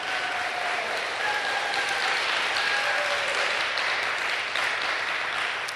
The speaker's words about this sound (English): And I want to introduce everybody to Bill Binney. Bill Binney, I'm sure a lot of you have heard of him. He had a 30-year career with the NSA. Feel free to applaud.